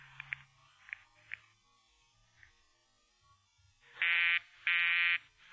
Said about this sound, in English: The line's busy, sir. It's their disc jockey. He takes phone requests. He's always busy when he's on.